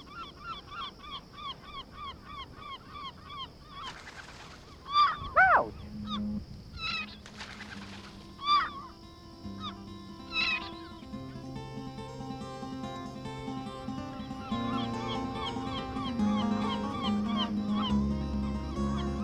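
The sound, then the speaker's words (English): A crowd of gulls in a colony calls continuously, many overlapping cries and squawks, with a few loud calls standing out over the busy colony chatter, heard from a photography blind set up among the gulls. “we settled in to give the gulls time to get used to our presence among them.”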